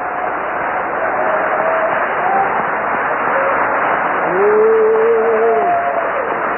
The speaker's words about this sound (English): Hallelujah. Let's clap our hands a little to the Lord.